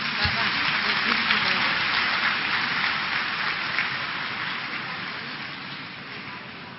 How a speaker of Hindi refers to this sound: जोर से ताली तो बजाइए।